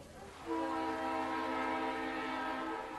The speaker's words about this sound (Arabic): وصل القطار الذي سيأخذهما إلى بيتهما في المدينة المنورة بعد رحلة مع الأصحاب في معرض الرياض للكتاب. صعد الركاب وأغلقت الأبواب، وتحرك القطار بنعومة كالسحاب.